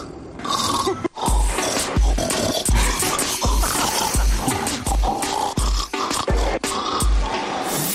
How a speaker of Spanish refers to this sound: Esta señora, que estuvo grabando durante 4 años los ronquidos de su marido, pues ha hecho una mezcla que es imposible.